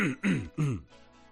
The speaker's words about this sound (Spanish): Primero, tengo que carraspear, perdón, y lo voy a hacer públicamente.